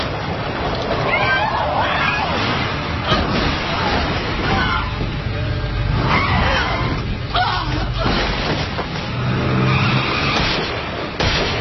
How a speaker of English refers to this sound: Well, it sounds like a car.